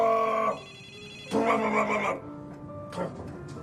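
A telephone rings in two loud bursts with a pause between them, followed by a shorter, fainter ring, its bright harmonic tones clear.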